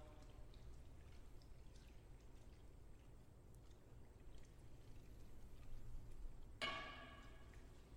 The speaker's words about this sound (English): And then you want to mix it all up, get that soap in there, and then you really can scrub your mask. Take the mask and scrub it against itself.